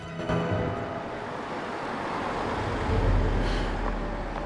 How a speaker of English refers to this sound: A couple of moments later, the car drives by her house.